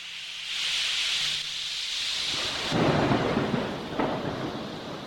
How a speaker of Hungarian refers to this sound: Vad orkán tombolt, úgy dobálta a nagy vitorlást, mint papírhajót. Hatalmas hullám jött, a hajót az égbe, majd a mélybe dobta, pozdorjává törte az árbócokat.